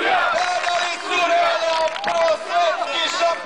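A large crowd cheers and shouts continuously, welcoming the Serbian basketball team home in September 2009 after their silver medal at the European championship, a dense roar of many voices with whistles and rising whoops, staying loud throughout without pause.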